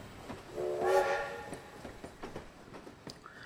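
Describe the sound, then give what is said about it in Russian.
A faint steam locomotive far away, heard from a railway station in England: a brief, mid-pitched whistle swells and fades in the first second, followed by soft, irregular chuffs and clanks. No one speaks. “Далеко-далеко послышалось пыхтение паровоза.”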